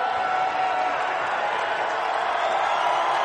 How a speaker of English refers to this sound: but this is the audio that he posted on his Twitter timeline. He's walking off the court. As he gets closer to the end, you'll hear the applause get bigger.